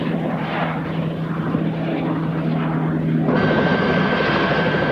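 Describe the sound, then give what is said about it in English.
A helicopter drones overhead as it flies over desert dunes and circles a plane, its engine and rotors a steady, loud, continuous roar that shifts to a brighter, harsher tone partway through. No one speaks. “The helicopter crests a dune and comes upon the plane.”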